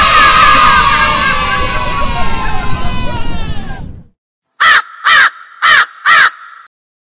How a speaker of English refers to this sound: The riverbank was filled with cheers.